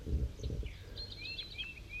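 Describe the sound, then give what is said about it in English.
A bird known as 5-3 calls with a quick series of thin, high whistled notes, some rising and some falling, over a soft low rumble, while a wild bird is also nearby; no one speaks. “So that's 5-3 calling right there.”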